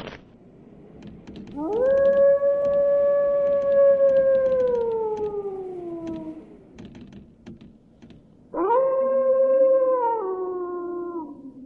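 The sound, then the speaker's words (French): A wolf howls twice, each call a long, steady, mournful tone that slowly sags in pitch, the second starting higher and shorter, with faint clicking and rustling in the background. “Je vais à la chasse au caribou, pas au loup.”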